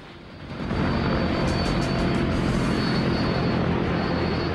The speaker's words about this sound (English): The plane takes off.